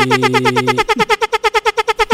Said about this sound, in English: Count it. 34. For everyone who's listening, 34. Count those air horns.